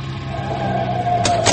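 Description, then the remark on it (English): A truck engine idles with a steady low drone and a faint whine above it, joined near the end by two brief rattling bursts, with no voices. “I'll stop the truck.”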